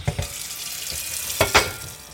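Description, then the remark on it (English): Tap water runs steadily into a large pot in a row house kitchen in Philadelphia, filled as if to cook pasta; a broad, even rush with a few metallic clunks as the pot shifts under the stream. “Okay, well, I'm grabbing a large pot here. I'm just going to fill it up with some water as if I was getting ready to cook some pasta.”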